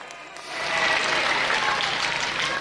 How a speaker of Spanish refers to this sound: Aplauso ahí, bueno, no estoy acostumbrado ya a esto.